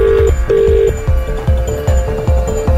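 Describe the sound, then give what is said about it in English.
A series of electronic telephone dialing tones for an outgoing call to a radio listener sounds in short, evenly spaced beeps, loud, over a steady low rhythmic thump, with no voices. “you are in our system and you could be getting one of these phone calls at any time.”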